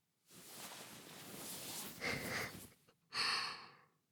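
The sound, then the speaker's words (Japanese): Heavy, audible breathing with no other sounds: a long, drawn-out rasping breath followed after a brief pause by a shorter, sharper, hissy one. “はぁはぁ言ってますよ。先輩もやっぱり興奮してるんですね。”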